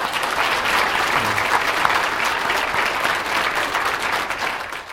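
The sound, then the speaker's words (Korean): A church audience claps together for the leader of the sermon translation volunteer team, in a dense, steady burst of applause that holds at an even, fairly loud level for several seconds before tapering slightly at the end, with no voices over it. “그 봉사팀의 팀장님이시고 오늘 수고 많으셨는데 우리 박수 한번 쳐주세요.”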